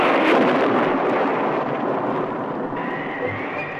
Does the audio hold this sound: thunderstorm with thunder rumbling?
yes